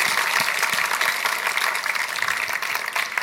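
A crowd applauds steadily, a dense wash of many hands clapping at an even loudness throughout, with no voices standing out.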